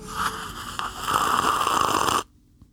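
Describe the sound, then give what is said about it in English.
A voice imitates a loud coffee sip: one long, airy, rasping slurp lasting about two seconds, which cuts off abruptly and leaves near silence. “Oh, I wanted you to do the coffee sip noise.”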